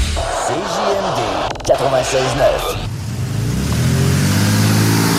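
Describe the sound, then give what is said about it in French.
A race car engine revs in rising and falling bursts, then settles into a loud, steady roar as it accelerates, its pitch climbing gradually toward the end; in an ad for the Enfer Enduro 200, a race of over 100 cars at the Autodrome Chaudière in Vallée-Jonction. “Ne manquez pas l'événement Enfer Enduro 200, une course folle impliquant plus de 100 voitures.”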